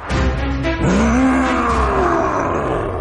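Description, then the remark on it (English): A loud roar of a scary nightmare monster fills about three seconds, a harsh, rumbling growl whose tone swoops upward and then slowly sinks, with no speech over it. “Ooh, hello, scary monster from my nightmares.”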